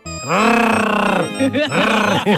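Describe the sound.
A man growls and roars in a loud, drawn-out throaty snarl at a caged lion, imitating a lion, followed by two shorter rumbling growls.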